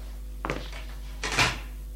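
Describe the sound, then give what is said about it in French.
A door in a doctor's office swings and is shut behind a person who has come in: a first creaky movement followed by a louder, brighter thud-and-latch sound about a second later, with no voices. “Il ferme la porte derrière elle.”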